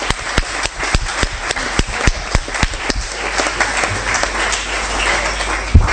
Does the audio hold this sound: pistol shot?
no